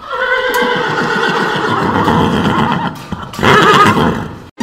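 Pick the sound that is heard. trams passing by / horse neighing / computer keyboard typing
horse neighing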